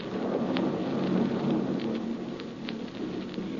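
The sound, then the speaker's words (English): Steady rain hisses with a low, continuous rumble of thunder underneath, a dense storm sound with occasional sharp drips and no voices. “the storm is stopping.”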